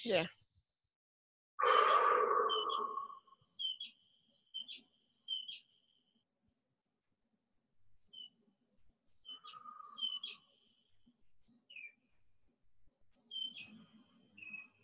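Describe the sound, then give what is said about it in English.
Birds chirp in short, high, repeated bursts that come in scattered clusters, after a loud breathy exhale at the start; soft rustling sits underneath between the chirps. “I was gonna say, I love that the birds are chirping.”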